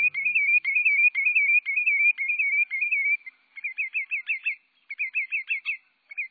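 A lesser yellowlegs, a type of sandpiper, sings a musical, wren-like song: a steady run of quick, high warbled notes, then a brief pause and two faster bursts of bright, bouncing phrases. No voices.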